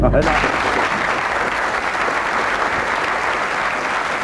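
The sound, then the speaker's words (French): A large theatre audience at the Théâtre des Célestins bursts into loud, sustained applause, a dense steady crackle of many hands clapping at once that holds at an even level throughout, with no voices standing out. “Florent profite des applaudissements pour quitter sa place et sortir.”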